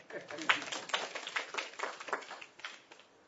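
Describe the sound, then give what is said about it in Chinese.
A short burst of audience applause for someone who has just recited John 3:16: many hands clapping in a dense, irregular patter at moderate loudness, holding steady for about three seconds before thinning slightly at the end. “给他一百分，掌声。”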